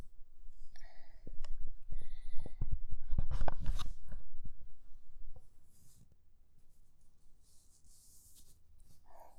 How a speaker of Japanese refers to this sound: ドキドキしてきたから、パンツの上からあそこ触るね。ちょっと擦る音聞いててほしい。